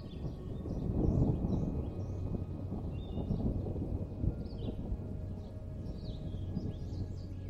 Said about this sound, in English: and just when you thought this place couldn't possibly get any more relaxing, you hear a gentle rumble of thunder off in the distance as a light afternoon rain shower makes its way towards the cabin.